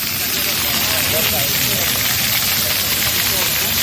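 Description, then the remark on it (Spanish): Water jets spray in a steady, loud, unbroken hiss at Playa de Madrid Río, a 6,500-square-metre urban beach water area by Arganzuela in Madrid, with faint voices of people murmuring beneath the rushing water throughout. “Así ya suenan esos chorros en esa Playa de Madrid Río y por allí ya se han pasado algunas chicas para refrescarse.”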